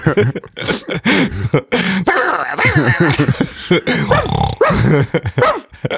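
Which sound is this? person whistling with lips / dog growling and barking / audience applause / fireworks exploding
dog growling and barking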